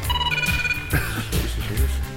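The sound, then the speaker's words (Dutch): A Motorola mobile phone ringtone plays a loud, continuous electronic melody with added reverb and a washed-out tail, its tones blurring into one another. No one speaks over it. “Ik zal eventjes laten horen wat mijn ringtone is op dit moment.”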